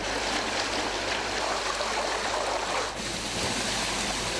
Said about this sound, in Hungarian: Folyóként hömpölygött a víz a délutáni felhőszakadás után Sajókápolnán. Kerteket, házakat öntött el az ár.